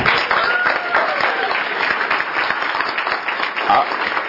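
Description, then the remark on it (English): An audience claps steadily throughout, a dense, crackling wash of many hands that stays fairly loud and even, with a few brief whistles or cheers poking through. “I've got a fun... round of applause.”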